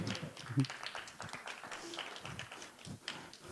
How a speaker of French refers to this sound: Oui, on les applaudit.